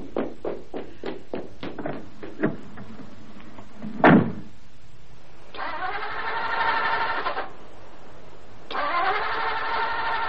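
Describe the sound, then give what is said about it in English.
A car engine cranks with a rapid chugging rhythm, a loud thump follows, then the starter whirs in two long, strained bursts that never catch, with the choke pulled right out. No one speaks. “It won't start, Chuck.”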